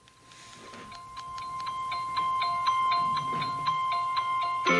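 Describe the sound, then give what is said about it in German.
A standard Apple phone ringtone called Tagesanbruch (Daybreak), used as a phone's ringtone, plays a bright, plinking melody of quick, evenly spaced notes over a sustained tone, gradually swelling in loudness, with no voices. “Mein Klingel ist gerade der hier.”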